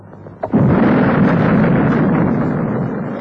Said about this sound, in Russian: С космодрома Байконур в космос уходит космический корабль. На борту четыре буквы СССР.